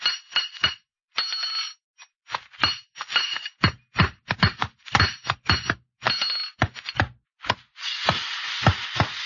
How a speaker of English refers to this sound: But when Scar started limping from a loose shoe, didn't have no choice. We had to head for the nearest blacksmith shop, so we turned north.